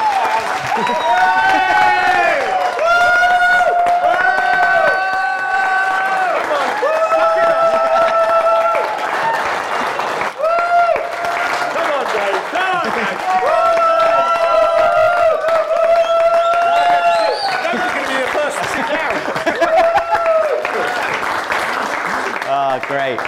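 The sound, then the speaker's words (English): Sustained, loud standing applause from a large audience at a Sunday service, thanking an elder on his last Sunday preaching, with enthusiastic cheering and long whooping shouts rising above the clapping, continuing steadily for over twenty seconds. “Should we give him a massive round of applause and say thank you,”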